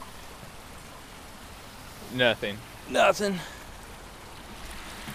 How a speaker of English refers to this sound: I like those artificial waterfalls there. Yeah. You got like 3 foot high waterfalls, kind of picturesque, a little screensaver vibe. Yeah, artificial AF.